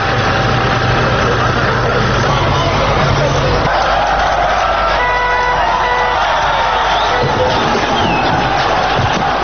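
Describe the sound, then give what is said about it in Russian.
Archival recording from Warsaw, 17 November 1989: thousands of residents applaud and murmur in a steady, noisy wash as the 1951 monument to Felix Dzerzhinsky on Dzerzhinsky Square is demolished, while a heavy engine drones and whines underneath, its low rumble dropping away partway through. “Как можно услышать на архивной записи, снос установленного в 1951 году памятника проходит под аплодисменты собравшихся.”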